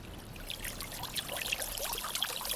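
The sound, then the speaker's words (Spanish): Water from a fountain trickles and splashes steadily, a continuous bright babbling with small droplet sparkles, with no voices. “Pero no, hombre, esto es una fuente.”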